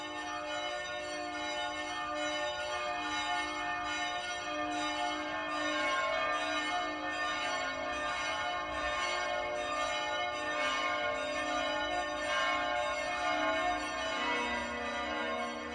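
Large bells of St. Stephen's Cathedral in Vienna peal continuously, heard from Domgasse on a freezing day, their rich overlapping tones ringing out in a steady, sustained wash with no pauses and no voices present.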